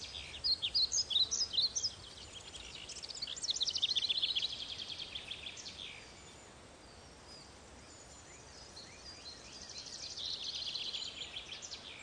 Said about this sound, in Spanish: Te sientas en el verde suelo, oyes el trinar de los pájaros, y te vas a reflejar en la transparencia de las aguas de ese pequeño estanque.